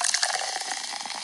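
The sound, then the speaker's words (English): Sparkling water pouring into a glass, a steady bright hiss with crackling bubbles and faint splashing for a second or so, with no voices. “That's sparky water.”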